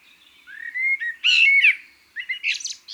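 A common blackbird sings clear: mellow, fluted whistled notes that rise into higher, scratchy twittering flourishes, with brief pauses between phrases and no voices.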